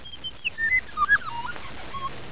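A series of high, thin chirps and short whistled sweeps, rising and falling quickly over a couple of seconds, fairly faint and heard alone without any talking.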